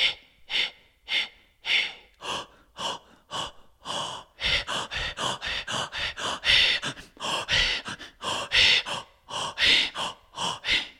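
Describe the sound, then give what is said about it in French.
A rhythmic breathing-exercise sequence of audible breaths, starting as short evenly spaced puffs and then quickening into a denser run of forceful inhales and exhales, with no talking. “C'est un petit solfège qui permet de fluidifier la respiration, fluidifier le souffle, pratiquer et fluidifier son instrument pour bien qu'il résonne.”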